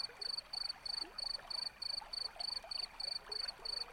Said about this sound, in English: You hear the sound of a brook nearby.